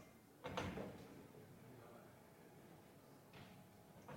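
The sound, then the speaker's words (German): A heavy, squeaky sliding blackboard panel rumbles and scrapes along its track, with a louder burst near the start and another shorter grind toward the end. “Die haben wir da unten bei der Quietschetafel, Achtung, Quietschetafel.”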